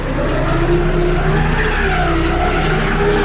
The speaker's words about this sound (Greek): Το αυτοκίνητο αύξησε την ταχύτητά του, στρίγκλισε και...